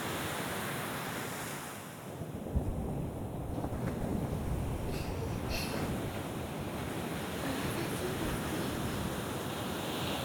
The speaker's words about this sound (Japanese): うるさくてすみません。この波の音くらい、お邪魔になってなければいいんですけど。